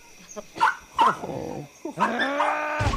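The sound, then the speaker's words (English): A small dog gives two sharp, high-pitched yaps, then lets out a drawn-out whining yelp that trails off into a longer whimper. “Check this, I ain't eating no dog, especially not some cute little poodle.”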